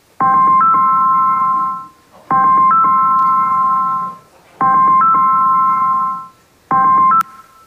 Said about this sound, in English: Somebody's phone rang.